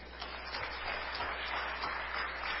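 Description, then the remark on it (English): A crowd claps steadily for a few seconds, a dense, continuous patter of many hands with no clear individual beats and no voices on top. “Come on. Clap your hands.”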